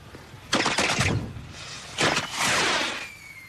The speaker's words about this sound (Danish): Satans også! Fyrværkeri kan de heller ikke lave herhjemme.